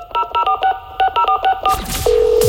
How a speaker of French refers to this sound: Tous les matins de cette semaine, je compose à 8h45, entre 8h45 et 8h50, un numéro de téléphone pour annoncer une bonne nouvelle.